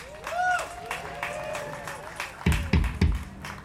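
An audience applauds with steady, dense clapping, mixed with crowd noise and a few high whoops, then several heavy low thumps near the end.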